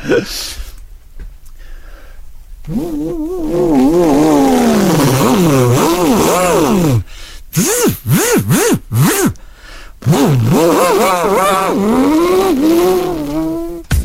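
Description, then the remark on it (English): A voice imitates a Formula 1 race car, with rising and falling whining engine pitches, revving bursts and quick downshifts, loud, sustained for several seconds with brief breaks. “I call this F1.”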